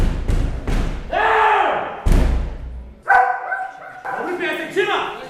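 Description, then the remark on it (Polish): A service dog, Nitro, at the remand prison (areszt śledczy) in Białystok, Poland, barks loudly, several sharp barks with whining, harmonic tones between them, mixed with heavy thumps and knocks. “Przewodnik z psem odgrywa bardzo ważną funkcję tutaj w jednostce.”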